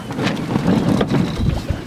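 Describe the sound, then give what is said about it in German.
A youth touring sailing cutter, the Segelverein Altona Övelgönne's cutter Teufelsbrück, tacking on the Außenalster in strong, gusty wind, with a steady roar of wind and water around the hull and brief bursts of flapping and creaking, fairly loud. “So klingt es, wenn bei viel Wind und vor allem Böen ein Jugendwanderkutter auf der Außenalster wendet.”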